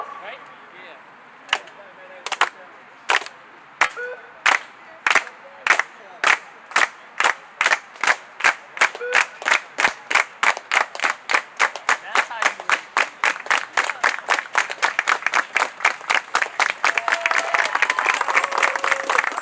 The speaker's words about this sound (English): Free the people! Can we do a solidarity clap? Hey, right? Yeah.